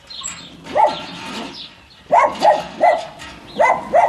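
Several high-pitched yips and barks from dogs and puppies come in short bursts, with brief pauses and a busy, scrabbling background between them.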